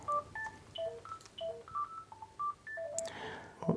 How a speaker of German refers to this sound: Oh, Entschuldigung, da klingelt gerade ein Telefon. Warte mal, ich muss das gerade mal